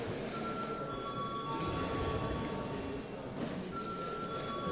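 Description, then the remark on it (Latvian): An electric voting bell in the Latvian Saeima (parliament) rings before deputies vote on sending a bill to committee, in two sustained bursts: a steady high-pitched tone that pauses briefly before sounding again over a low background murmur. “Lūdzu zvanu.”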